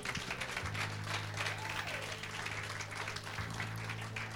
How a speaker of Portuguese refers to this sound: Aplaude o Senhor. Um aplauso ao Senhor.